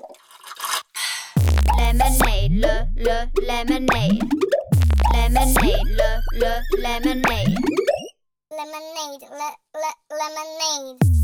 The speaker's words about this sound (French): elle retranscrit par le rythme et des effets électro le pétillant du soda frais.